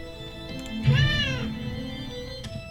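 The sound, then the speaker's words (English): A single drawn-out cat meow rises and falls near the start, clear, over a steady low background hum, then fades into quieter tones; the cat is Sordello from the student-made video game Hell Paws. “Hell Paws stars a cat called Sordello that must travel through the circles of hell.”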